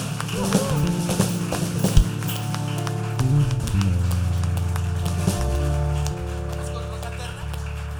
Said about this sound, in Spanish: Este aplauso es para ti, Jesús.